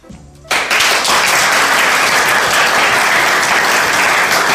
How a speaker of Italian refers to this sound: Ci hanno raccontato una telecronaca di una giornata tipica di galline giganti al Dynamo Camp. Per questo li ringraziamo con un applauso.